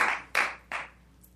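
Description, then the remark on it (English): A few scattered hand claps from an audience at a commission meeting, three sharp bright slaps about a third of a second apart, each ringing out briefly before fading into quiet. No one speaks. “Don't clap, folks. Do not clap, please.”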